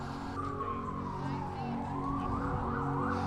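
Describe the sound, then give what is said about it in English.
An ambulance siren sweeps slowly down and then back up in pitch over steady, rumbling street traffic on Broadway near Madison Square Garden in New York City, rising in prominence as the ambulance approaches and people stop for it. “Emergency vehicles coming toward us. It's an ambulance, so no trouble.”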